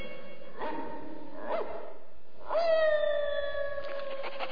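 Dogs bark in short yelps, then break into a long, sustained howl with rising harmonics, fairly loud, with no talking. It is a dog alarm from Pongo in Regent's Park about 15 stolen Dalmatian puppies.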